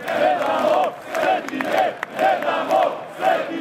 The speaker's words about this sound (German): Wir geben unsere Heiligtümer nicht her. Das rufen die Gläubigen und das steht auch auf den wenigen Transparenten in der Menge.